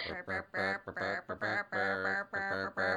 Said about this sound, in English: Oh, there they go! They're singing it! So they know that one too. Well, there you go. I bet you didn't think when you came to tea in a penthouse in New York that you would have that song sung to you by chickens.